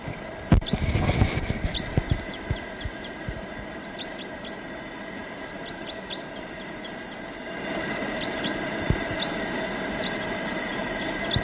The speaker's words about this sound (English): That bird flew to the far tall ponderosa pine and it's getting song from there.